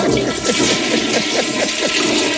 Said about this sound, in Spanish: Por favor, os pido que os pongáis la mano en el pecho y escuchéis de nuevo el sonido del día. Pues justo cuando encendíamos la cisterna